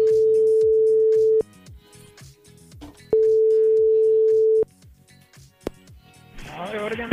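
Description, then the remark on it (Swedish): A phone line rings out with two long, steady tones separated by a pause, as the Mix Megapol morning radio show in Göteborg calls someone in Jokkmokk, while people talk quietly underneath and a burst of line noise follows. “Ja, det har blivit så att vi ringer norrut ibland i programmet någon gång i veckan eller varannan så där för att stämma av lite med”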